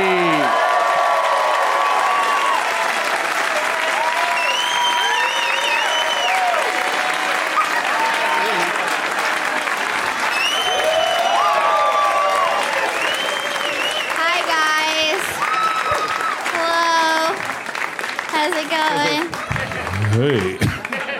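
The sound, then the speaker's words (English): A crowd bursts into sustained, loud applause with scattered whoops and cheers as guests are welcomed onto the stage, a steady dense clapping wash lasting about twenty seconds, with a few whistles and shouts rising above it. “Please give a big welcome.”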